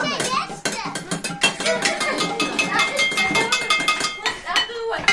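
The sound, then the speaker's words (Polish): In a small room, a home kitchen orchestra bangs cooking pots like drums in a loud, rapid, irregular clatter of metallic hits with ringing tones, while children's voices chatter and call out underneath. “Czekamy na kolejne garnki, bo to są nasze bębny.”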